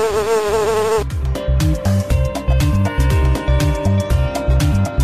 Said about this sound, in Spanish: No soy florista, pero vivo entre las flores y, aunque me resista, el hombre me arrebata mis dulces labores. ¿Quién soy? ¡La abeja!